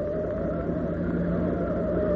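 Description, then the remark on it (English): A car engine roars steadily as the car is driven too fast through a corner, a loud, continuous droning hum that holds an even pitch throughout, with no voices over it. “Michael, you took that corner much too far.”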